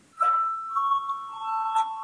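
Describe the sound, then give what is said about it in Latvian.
A bell rung to call deputies to a vote is struck twice, about a second and a half apart, each strike leaving a steady, mid-pitched ringing tone that sustains between them. No voices are heard. “Iebildumi nav, tātad lūdzu zvanu.”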